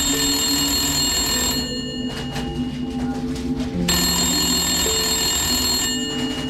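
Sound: telephone bell ringing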